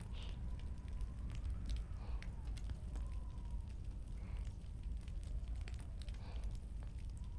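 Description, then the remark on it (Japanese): A crackling campfire at night under moonlight and a starry sky, after rain has stopped: a steady low roar of flames broken by scattered sharp pops and snaps throughout, with no voices. “月明かりのスポットライトと焚き火のかすかな光、そして満天の星空がきらめいている。”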